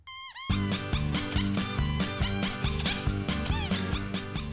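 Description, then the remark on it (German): A short, high rubber duck squeak wobbles up and down at the very start of the radio play Quietscheentchen auf Abwägen, based on a crime story by Johanna Stiller; then loud, bouncy music with a steady beat takes over, with squeaky sliding tones running through it. “Quietscheentchen auf Abwägen.”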